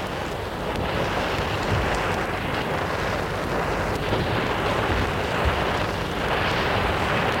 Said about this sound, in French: L'orage gronde et il pleut à verse.